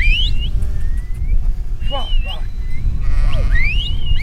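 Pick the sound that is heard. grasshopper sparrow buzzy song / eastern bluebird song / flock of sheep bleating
flock of sheep bleating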